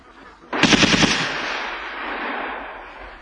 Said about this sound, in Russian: И автоматная очередь эта, прогремевшая в Ёлковице ровно 100 лет спустя, салют Ботеву